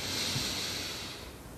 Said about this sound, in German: Nimm den zweiten tiefen Atemzug und atmen ein.